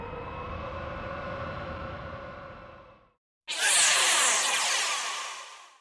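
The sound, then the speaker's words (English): A spaceship engine hums with a steady, buzzing tone for about three seconds and fades out. After a short silence comes a loud, roaring whoosh as it blasts off, slowly tapering away. “At last, the spaceship started. This time, it kept going.”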